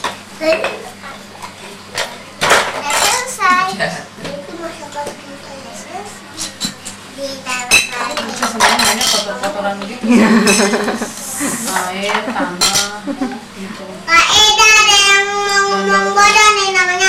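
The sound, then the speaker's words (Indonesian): Light plastic toy plates and cutlery clatter and clink in quick, irregular bursts, while children's high voices chatter over the clatter, louder toward the end. “Ambilin itu aja tuh kan ada piring-piringan.”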